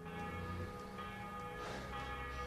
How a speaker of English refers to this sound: What you can hear now, probably, is the bell on the St. Procopius Church, Catholic Church. I would say the main kind of site in the center of the town.